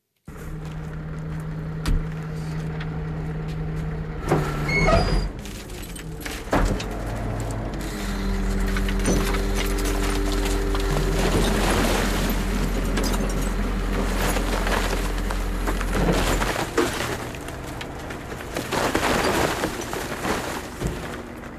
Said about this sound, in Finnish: Tämä taitaa olla joku roska-auto, mikä tuolla taustalla. Joo, siellä pyörii joku, joo, okay. Joku keräilee niitä.